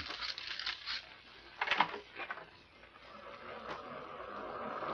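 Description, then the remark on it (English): A soft, steady wash of surf rolls in, hissing and churning with a few brief crackling swells, heard faintly through glass doors just opened onto the view, with no voices. “The surf sounds ominous.”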